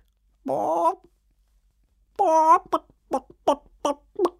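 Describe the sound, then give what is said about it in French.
A child imitates a hen: a drawn-out squawk, a pause, another long call, then a quick run of short, rhythmic clucks, fairly loud. “La poule. Oui, exactement. Mais oui, c'est ça.”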